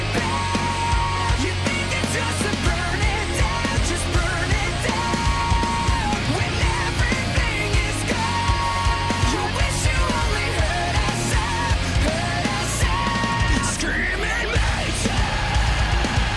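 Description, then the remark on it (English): A loud, driving rock song by a Japanese band, sung in English as an anime opening theme, with a full band and screamed vocals, playing continuously and densely from start to finish. “It's a Japanese band, but I can sing this anime song.”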